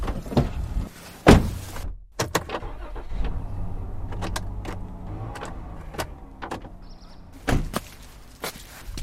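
A door is opened with a heavy clunk, then scattered footsteps and small knocks follow, with a second solid thud near the end. No one speaks.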